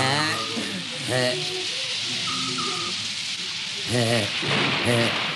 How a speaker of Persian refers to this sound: چطور مگی؟ ایچی عرض کردم بارون میاد.